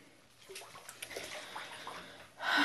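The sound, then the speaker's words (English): Bath water sloshing and splashing in irregular bursts, with soft dripping sounds, then a louder rush of moving water near the end. No one speaks. “And the water is nice and relaxing.”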